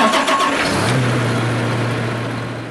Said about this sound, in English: He bought a new tractor and a one-year-old shiny green John Deere sprayer. It's a big machine and it makes a big sound when you start it up. Here's what it sounds like.